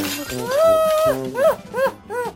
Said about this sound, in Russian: Раз так, решило окно, и я буду открываться и закрываться. И принялось хлопать рамами, пока не вылетели все стекла.